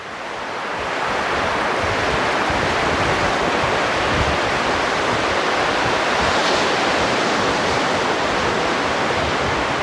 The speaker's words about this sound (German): An der Küste angekommen, eigentlich nur wenige hundert Meter entfernt von dem Museum. Hier rauschen die Wellen des Pazifiks an den neu errichteten Seewall mit ein bisschen Sandufer und Flusseingang hier.